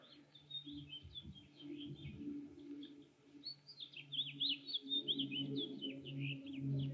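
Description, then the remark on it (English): Birds chirp and tweet outdoors in a steady stream of quick, high calls, moderately loud, over a low droning hum in the background. No one speaks. “you listen to birds, airplanes, you look around, you see people, you see flowers and grass.”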